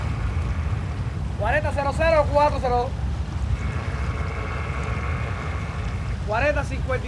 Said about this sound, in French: Là, on est au large de la baie des Cochons, à Cuba. Quelque part en mer. Toute l'équipe du film s'entasse sur le seul bateau qu'on ait pu trouver. Un vieux chalutier bien déglingué.